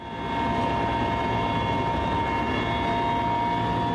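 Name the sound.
helicopter in flight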